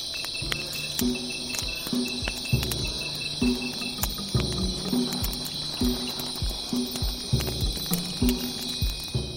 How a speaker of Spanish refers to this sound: Impone, la noche en el Amazonas, ¿eh?